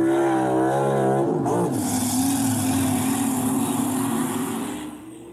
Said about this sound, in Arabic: أول اختبار أن أصنع البعض من الخردة. سحق سيارة صدئة قديمة. ها هذا الأمر سهل.